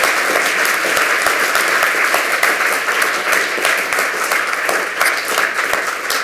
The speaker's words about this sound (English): If there are no more presenters in the audience, huge round of applause for all of the lightning talk presenters here at the Congress.